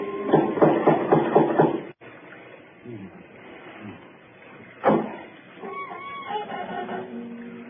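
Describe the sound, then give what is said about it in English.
A quick run of about six resonant raps from a door knocker on a door with no bell, then a quieter stretch, a single sharp thud, and faint murmuring voices afterward. “There might at least be a knocker.”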